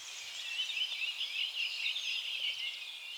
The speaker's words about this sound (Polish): A teraz tutaj za mną po prostu sobie odpoczywają. Za chwilę pewnie znikną, jak skończymy, albo pod koniec. Co jakiś czas ten świergot ustaje, bo może tam ktoś podszedł, czwornożny drapieżnik albo coś innego je spłoszyło.